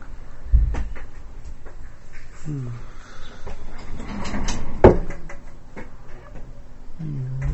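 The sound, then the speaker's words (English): A door bumps shut with a low thud, followed a few seconds later by a sharper wooden clack, amid soft room noise and faint, indistinct voices in the background. “The door. Someone's still there?”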